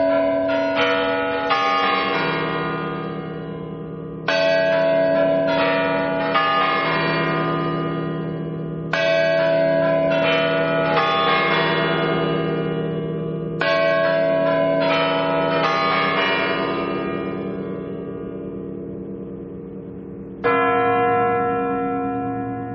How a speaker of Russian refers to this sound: Но еще до войны с курантами на Спасской башне возникали проблемы.